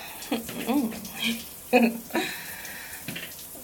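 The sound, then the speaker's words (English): Wet, soapy rubbing and light splashing of water in a shower, a steady hiss with irregular squelches, broken up by a few short voiced murmurs or sighs as a naked woman soaps up her breasts. “But even more, I'm soaping up my boobs right now.”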